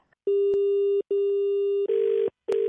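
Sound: telephone busy tone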